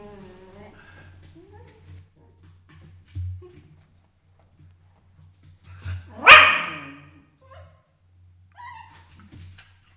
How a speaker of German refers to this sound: Das klingt ein bisschen gequält, als hätte ich das selber gemacht, aber dem ist nicht so, sondern so klingt unser Hund, wenn man sich vor ihn stellt und eine Möhre in der Hand hat.